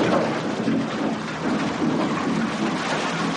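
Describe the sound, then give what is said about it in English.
A tractor dumps one cord (128 cubic feet) of firewood: a loud, continuous rumbling clatter of logs tumbling and knocking together, steady for about three seconds with an engine drone underneath and no voices. “That's a tractor jumping one cord of firewood, the industry's standard measure.”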